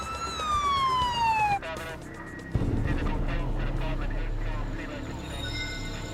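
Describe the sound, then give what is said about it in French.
An ambulance arriving at a gas station after an emergency call wails its siren loudly, its pitch sliding steadily downward, then cuts off into rushing traffic noise, a sharp thud and a low, steady rumble. “Une ambulance arriva au bout de quelques minutes, mais il était déjà trop tard.”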